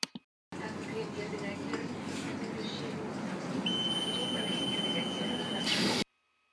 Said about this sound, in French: Mais voilà déjà mon arrêt. Je descends de voiture. Les portes se ferment.